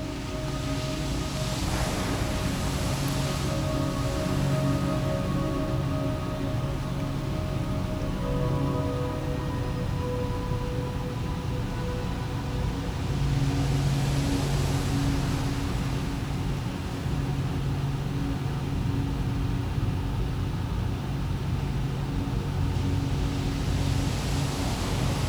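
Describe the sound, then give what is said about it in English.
Ocean waves wash steadily for the whole stretch, a continuous roar of surf with slow swells as larger waves roll in and break, with no one speaking. “The salty smell, the cool breeze, the warm sun, and the soothing rhythm of the waves.”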